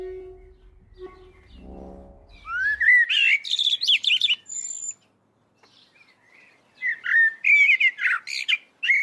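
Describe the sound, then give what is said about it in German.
A songbird gives harsh, rapid scolding calls mixed with sharp chirps, in two loud bursts separated by a brief quiet pause, after a low rumbling opening. “Reckt das Auge, duckt sich, hüpft weg, in ihr Zetern, Klingen, von der Dämmerung verschluckt.”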